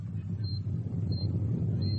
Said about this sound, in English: Another quake. Sounds like it. Hold on.